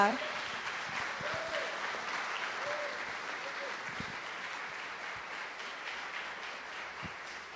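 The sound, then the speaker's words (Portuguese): A crowd applauds steadily, a dense wash of many hands clapping at an even loudness for several seconds, with faint voices calling out underneath, as the audience applauds the Lord during a religious service. “E somente os apaixonados e com o coração cheio de fé aplaudam o Senhor nesta hora.”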